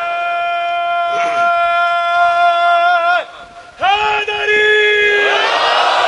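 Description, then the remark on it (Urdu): A large crowd at a majlis (religious gathering) chants in unison, a sustained tonal roar of many voices answering a slogan as remembrance, briefly dropping away before surging back loud and rising into a swelling shout. “یہ ہمارے ہاں تو ایک آدمی تھوڑی ذاکر ہوتا ہے, سننے والا بھی ذاکر ہوتا ہے, وہ درود پڑھ کے ذکر کرتا ہے, وہ نعرے کا جواب دے کے ذکر کرتا ہے.”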